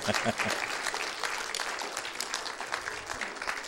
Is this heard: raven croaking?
no